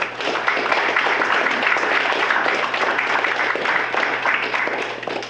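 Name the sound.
audience applause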